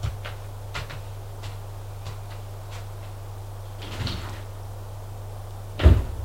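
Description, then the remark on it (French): A door closes with a single heavy thud near the end, after a few faint clicks and a softer knock, all over a steady low electrical hum. “La porte qui a été fermée, Cliff se retrouve seul.”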